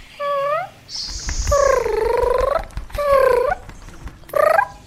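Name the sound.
small bird chirping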